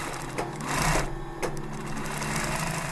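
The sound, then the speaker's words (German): A sewing machine stitches hand-cut teddy bear fabric, its motor humming with a fast mechanical whir and rattling stitches, briefly surging louder before settling back into a continuous drone with no voices. “Nach dem Zuschneiden wird es genäht.”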